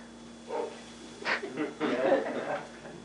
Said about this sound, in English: My dog downstairs, they're part of the Bible study. He barked right at the right point.